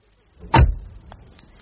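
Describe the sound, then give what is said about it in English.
A car door shuts with one heavy, solid thump, a deep low-pitched impact that quickly fades, followed by a few faint clicks in otherwise quiet surroundings. “A lovely sound, that door.”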